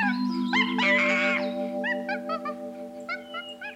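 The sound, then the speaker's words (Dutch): Monkeys chatter and screech as they play with a fake snake: a loud, shrill squeal near the start, then a quick string of short, high chirping calls over a steady low hum. “Iek, iek, kwetteren ze.”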